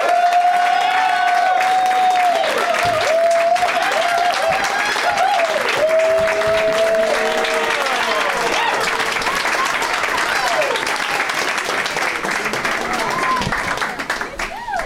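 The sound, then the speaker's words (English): Loud, sustained applause from a large crowd welcoming three repeat guests on a program, with cheers and sharp whistles rising over the clapping, holding steady for about fifteen seconds before easing slightly at the end. “Please give a big, warm welcome to all repeat guests on the program,”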